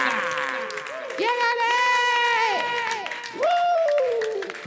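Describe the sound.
An audience claps steadily while several voices whoop and cheer in rising and falling tones, the crowd noise loud and continuous for several seconds.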